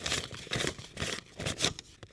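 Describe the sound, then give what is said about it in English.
Paper dollar bills crinkling and rustling in several quick bursts about every half second, crisp and fairly soft, with no voices. “And then paper dollar bills, like the ones we use today.”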